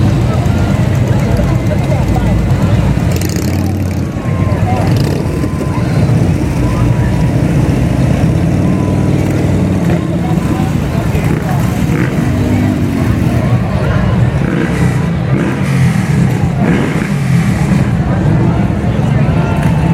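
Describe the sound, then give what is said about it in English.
Loud motorcycle engines of a veterans' motorcycle riders group rumble and rev continuously for the whole stretch, a thick throaty roar with occasional rising swells, while voices murmur faintly underneath. “I always knew Santa was on a motorcycle.”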